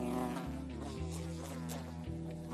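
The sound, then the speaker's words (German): A housefly buzzes loud without pause, its steady drone dipping and shifting in pitch every second or so as it moves about. No one speaks. “Ey, diese blöde Fliege, die nervt mich schon den ganzen Tag.”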